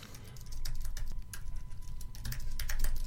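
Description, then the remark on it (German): Rapid, irregular clicking of keys on a computer keyboard, fairly loud, with bursts of keystrokes over a low background hum and no talking. “Das heißt, man hört seine Tastatur.”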